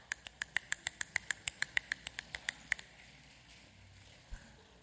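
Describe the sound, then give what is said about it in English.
An audience on the left side of a sanctuary snaps their fingers together in a steady, brisk rhythm, about sixteen crisp snaps over three seconds, then the snapping stops and a quiet room hum remains, broken by one soft thud. “Okay, and folks on the left, you are going to snap your fingers.”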